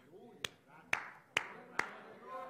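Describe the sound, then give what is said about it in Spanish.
Four sharp hand claps land at a steady, unhurried pace, each crisp and bright, with a low murmur of voices running underneath. “Pastores, ¿de qué está usted aplaudiendo?”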